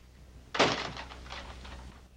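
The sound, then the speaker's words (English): A door opens as Hastings goes to it, with a sudden knock-like thump of the latch, followed by a softer scraping, rustling movement that fades over about a second and a half. No one speaks. “Hastings goes to the door.”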